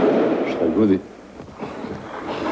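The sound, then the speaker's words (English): A voice speaks briefly, then a muffled explosion from shelling outside thuds once, followed by a low, quiet rumble as the room falls still. “At this explosion, we get up from the kitchen table and move to the next room, further from the windows.”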